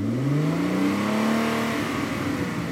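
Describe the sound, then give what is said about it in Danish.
A car engine revs up steadily as the accelerator is pressed, its pitch climbing smoothly over a couple of seconds, loud, with no voices. “så kan man tænke på den idé, at man sætter sig ud i bilen, så træder man på speederen.”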